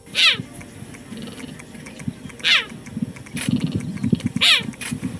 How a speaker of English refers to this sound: Also, their lithe, pretty, and have an adorably counterintuitive meow instead of a blood-curdling roar. Have you heard a cheetah roar? It's kind of cute. Listen to it. Here's one.